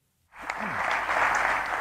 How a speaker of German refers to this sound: Beifall für Tony Blair. Der frühere Premierminister hat gerade eine Rede im prachtvollen Carlton House gehalten, gleich oberhalb des St. James's Park.